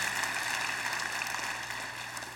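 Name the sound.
audience clapping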